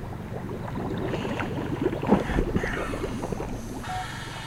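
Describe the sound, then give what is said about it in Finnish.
Water sloshes and bubbles steadily around a small rubber boat on a river while divers work on the bottom below, a busy stream of irregular splashes and gurgles with a brief louder swell midway, and no talking. “tässä kumiveneessä ja lupaavasti näkyy, kun kuplat liikkuu tässä vedenpinnassa, kun siellä on sukeltajat tekee töitä pohjassa.”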